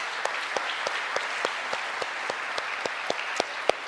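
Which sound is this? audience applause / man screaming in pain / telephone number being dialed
audience applause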